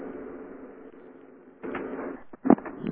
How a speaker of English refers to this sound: Sorry, it's probably my typing. Sound like typing. No. It does sound a bit like a machine shop.